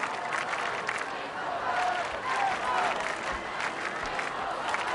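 A huge crowd of about 1,600,000 young people cheers and applauds, greeting Pope Francis on his arrival at a campus, in a steady, dense roar for the whole stretch, with scattered whistles and shouts rising above the broad wash of noise.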